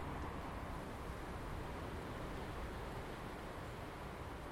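Steady, continuous wind rushes past outside a back door, a broad airy roar that stays fairly even throughout with no voices or distinct events over it.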